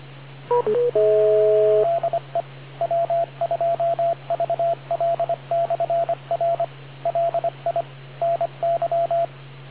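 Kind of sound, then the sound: signal or alarm, radio repeater beeps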